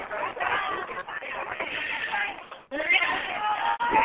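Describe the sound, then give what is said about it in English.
A dense murmur of many voices of men, women and children at a street protest near the Bills Stadium, talking at once on the sidewalk, steady and fairly loud, with a brief dip before the crowd chatter swells back up. “Sounds from the event.”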